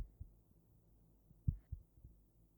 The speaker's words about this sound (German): Es war so leer, dass ich das Klopfen meines eigenen Herzens hören konnte.